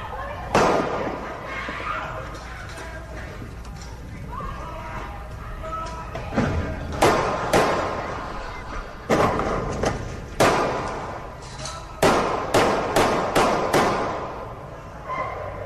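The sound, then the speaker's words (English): A string of about ten sharp, loud gunshots fired at a car carrying a 14-year-old and a 16-year-old, in irregular bursts, one early and the rest bunched close together in the second half, over a steady background rumble. “Listen how many shots were actually fired at that car that these 14 and 16-year-old kids were in.”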